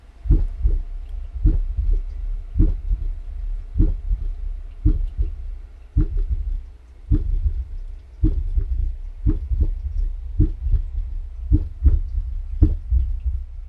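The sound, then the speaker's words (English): A muffled recorded human heartbeat thumps steadily, each beat made of several overlapping low thuds in quick succession as the heart's four chambers beat one behind the other, over a constant low rumble with no voices. “the sound of a heartbeat can tell you quite a lot about the organ's condition”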